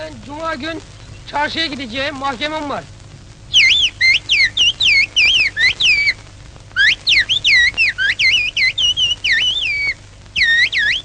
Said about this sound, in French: On a donc étudié d'une façon systématique cette nouvelle langue. Voici une phrase parlée, puis sifflée plusieurs fois.